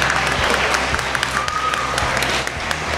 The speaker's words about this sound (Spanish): Un aplauso muy fuerte para la mascota que está por ahí tomando. Y ha repartido algún regalito que otro. Repartiendo regalo. Venga, un aplauso para la mascota de Logitravel.